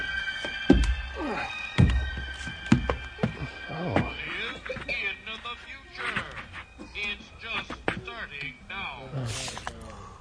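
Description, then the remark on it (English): Three heavy door thunks land about a second apart, followed by a stretch of people talking with busy background noise. “Doors close in 5 seconds.”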